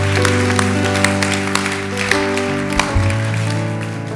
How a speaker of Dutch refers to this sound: Geweldig. Laten we al deze mensen een applaus geven. Give all these people a hand.